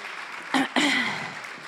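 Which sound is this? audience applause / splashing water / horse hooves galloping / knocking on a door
audience applause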